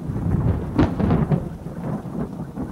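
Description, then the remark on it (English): Deep rolling thunder rumbles over the steady hiss of heavy rain pounding against an apartment building, with a few louder cracks near the start before settling into a continuous low growl. “It wasn't my alarm that woke me up, it was thunder.”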